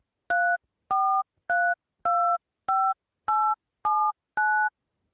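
Eight crisp touch-tone telephone keypad beeps, each a short dual-pitched tone, pressed at a steady, even pace in quiet with no one talking, as someone dials by phone into an audio recording line.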